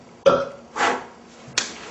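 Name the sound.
burp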